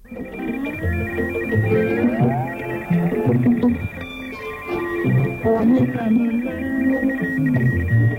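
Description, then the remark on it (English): Two steady, high-pitched radio teletype tones hold constant over a muddled shortwave broadcast of music and voices from an African station on the 60-metre band, heard through a communications receiver, the tones sitting loudly on top throughout with faint warbling in the background. “We purchased a unit, set it up, and for a demonstration, I found an African station on 60 metres with a radio teletype station on top of it.”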